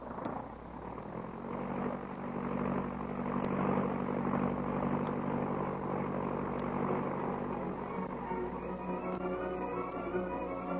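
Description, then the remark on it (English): A propeller airplane engine roars steadily as the plane takes off, a loud, continuous droning hum with rising and falling harmonic tones, with no voices. “Well, get in the plane. All right, boss, I get in. All set? May we? We're off.”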